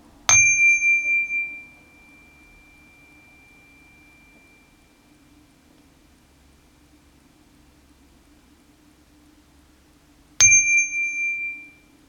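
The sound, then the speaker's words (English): A meditation bell, rung every 10 seconds during a 30-second breathing exercise, rings twice about ten seconds apart, each strike clear and bright with a long sustained tone that slowly fades into near silence between rings. “And I'll ring the bell every 10 seconds so you will hear the bell ring 3 times during the 30 seconds.”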